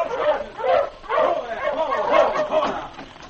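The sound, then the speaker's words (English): Several sled dogs of a dog team approaching on the way to Whitehorse bark and yip excitedly in an overlapping chorus, loud and continuous for a few seconds with short, pitched bursts tumbling over one another. “After walking toward Whitehorse for almost half an hour, Sergeant Preston finally saw a dog team coming toward him.”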